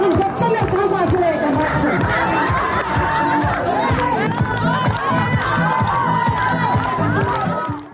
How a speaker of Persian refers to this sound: بله، که یعنی اینجور مراسمو دارن که فقط روز نوروز به اینا اجازه میدن که بیرون بیان. این آهنگی که میشنوید یا این هلو شادی مربوط به جشن در حیات زندان زنان قرقیزستان است.